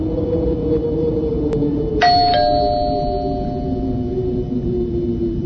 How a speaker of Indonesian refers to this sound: suara bel rumahku. Siapa malam-malam gini?